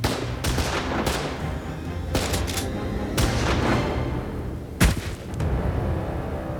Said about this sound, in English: He fired one shot before a hail of gunfire came from the stable across the street.